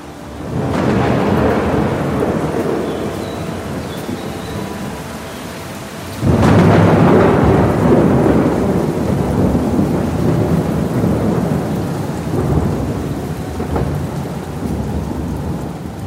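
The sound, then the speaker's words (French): Heavy rain pours steadily in a very violent easterly storm in the Var region of France, early winter 1959, while thunder rumbles; a loud crack of thunder breaks in around the middle, followed by a long rolling rumble under the downpour. No voices. “Depuis quelques jours, en ce début d'hiver 59, la région connaît des pluies diluviennes. Une très violente tempête d'Est s'est déclenchée.”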